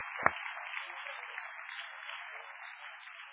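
A crowd applauds steadily for several seconds, a dense, even wash of many hands clapping at moderate volume, opening with one sharp, louder clap. No one speaks over it.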